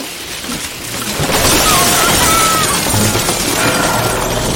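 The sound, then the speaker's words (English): A drywall apartment ceiling, the floor of a crawl space above, gives way as a sheet in a loud, roaring crash that swells after a quieter start and keeps rumbling with scattered debris clatter to the end. There is no talking. “Drywall floor of the crawl space, now the apartment ceiling, collapsed in a roaring sheet crashing below.”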